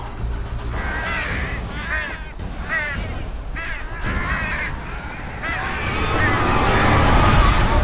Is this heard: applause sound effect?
no